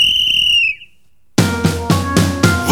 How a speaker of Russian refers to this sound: Вот опять кто-то вылез на встречную, и звучит милицейский свисток.